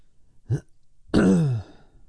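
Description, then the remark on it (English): A clear throat clearing: a short gruff grunt, a brief pause, then a longer rasping clear that drops in pitch. No one speaks. “I'm going to be clearing my throat a lot.”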